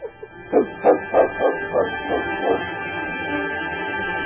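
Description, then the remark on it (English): A dog barks in a quick run of about seven sharp, evenly spaced barks that gradually soften before falling quiet, with no one talking. “Here, I'll give you this dog for your sled.”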